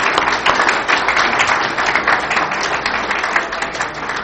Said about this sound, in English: With that, I think we're out of time for this session, so if y'all would join us in a round of applause